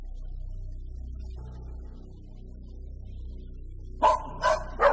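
dogs barking

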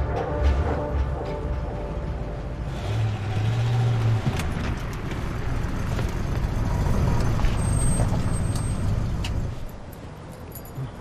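car arriving and stopping

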